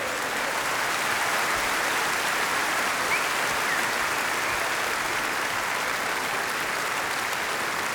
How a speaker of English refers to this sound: And now, they are all members of my orchestra. Give them an enormous applause